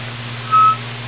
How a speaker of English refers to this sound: Takes quite a while to get a beep there.